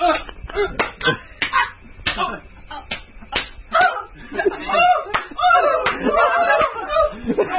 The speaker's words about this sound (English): We need, well, you know, this is radio. We need the loud slapping sound. If I didn't pull your pants down, no one would know what was happening.